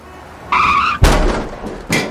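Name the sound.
car tires skidding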